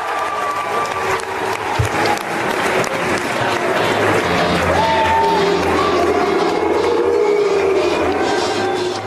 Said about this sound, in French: Une salle, deux ambiances, c'était ce week-end au Parc Floral de Vincennes, la rentrée des jeunes républicains. Les applaudissements étaient pour Valérie Pécresse et les huées pour Xavier Bertrand alors que leurs photos passaient sur un écran géant.